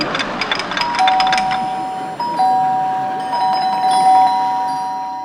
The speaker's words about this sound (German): Es läutet.